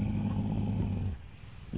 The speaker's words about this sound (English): What was that? I just hope it's nobody. It's a mountain lion.